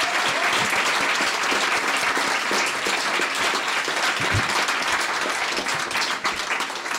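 Sustained audience applause, a dense wash of many hands clapping at a steady, loud level for several seconds, with no one speaking over it.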